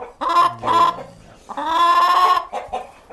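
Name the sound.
hens clucking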